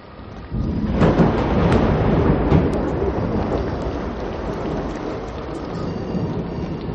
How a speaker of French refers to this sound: Écoutez. On dirait le martèlement d'innombrables pieds sur les dalles. Les jumelles. Elles sont des centaines.